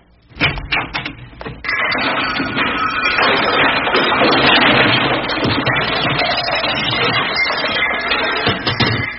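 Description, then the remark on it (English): The overstuffed contents of a closet, opened while searching for a fishing pole and bait box, come crashing out: a few sharp bangs, then a loud, sustained avalanche of clattering and tumbling objects lasting several seconds, ending in scattered knocks. “I'll just go over here to the closet and open the door.”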